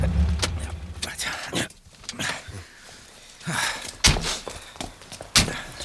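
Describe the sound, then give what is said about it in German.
A car idles low, then a man gets out as a door opens and several sharp thunks and clicks follow, with scattered footsteps on hard ground. “Der Mann steigt aus.”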